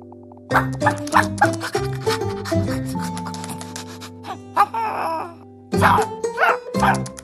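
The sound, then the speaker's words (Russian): A dog barks in a quick run of short yips over a steady background hum, goes quiet for a moment, then lets out a few more sharp barks. “Собака же хищник!”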